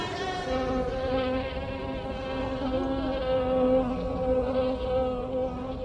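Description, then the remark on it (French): A mosquito whines steadily, its thin, high buzz wavering slightly in pitch for several seconds with no pauses and no voices. “Et quand le virus, qui a voyagé avec les hommes, rencontre un moustique, la dengue se propage.”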